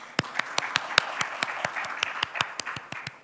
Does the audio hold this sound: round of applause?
yes